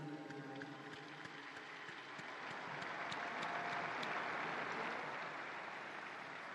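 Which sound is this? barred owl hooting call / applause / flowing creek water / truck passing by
applause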